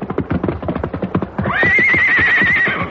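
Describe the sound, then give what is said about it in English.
The horse Silver's hooves clatter in a steady, loud rhythm as he comes out of a river onto dry ground, then he lets out a long, high, wavering whinny over the continuing hoofbeats. “The river tore at them, but finally Silver's hoofs found solid footing, and he clattered to dry ground.”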